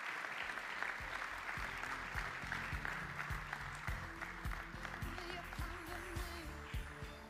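An audience at a church applauds steadily for several seconds as the speaker's father comes up to share, a dense, even wash of many hands clapping at a moderately loud level, with no voices standing out.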